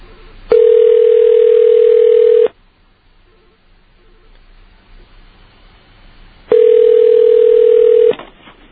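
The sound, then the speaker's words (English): A telephone line tone sounds twice, each a steady, buzzy hum lasting about two seconds, with a long gap of faint line hiss in between. No one speaks. It is a call placed from WUSB Radio in Stony Brook, New York, to a 7-Eleven in area code 606. “I'm calling WUSB Radio, Stony Brook, New York.”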